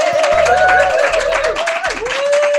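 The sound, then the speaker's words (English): A steady burst of applause from a crowd, dense and loud throughout, with a wavering whistle-like tone riding over the clapping and no one speaking. “Ah, the sweet sound of applause.”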